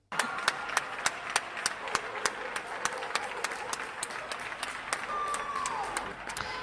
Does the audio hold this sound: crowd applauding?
yes